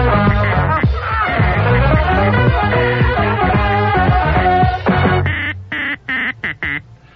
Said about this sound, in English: Quack, quack.